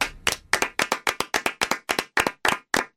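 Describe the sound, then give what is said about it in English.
A man claps hands steadily, about a dozen sharp claps in a quick, slightly uneven rhythm with brief gaps between them, and no voices. “He doesn't sing, but he claps.”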